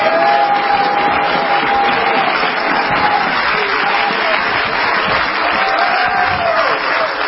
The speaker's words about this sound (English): Clap your hands unto Jesus.